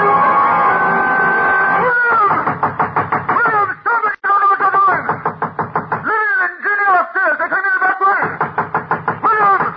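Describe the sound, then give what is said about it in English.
Nails are hammered into heavy wooden boards across a door with a fast, steady run of loud blows that continues for several seconds, while a voice speaks over the pounding. “As I nailed the boards across the door, I felt as if I were driving nails into his car.”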